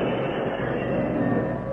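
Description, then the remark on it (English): A big locomotive brakes to a halt after the engineer closes the throttle and applies the brakes: a steady, dense rumble of train wheels on rails with a thin metallic whine running through it, holding at an even loudness with no voices. “At the danger signal, the engineer closed the throttle and applied the brakes.”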